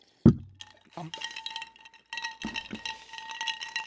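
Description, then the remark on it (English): Ice cubes clink and rattle against a glass, a sharp knock followed by bursts of swirling, ringing jingles as the glass is stirred or shaken. “It's ice cubes in a glass.”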